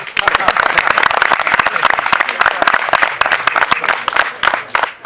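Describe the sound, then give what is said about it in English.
A crowd bursts into steady applause, many hands clapping densely and loudly for several seconds, sustained without a break. “I'm not sure if that's a good thing to clap for, that your husband or wife may not be your husband or wife.”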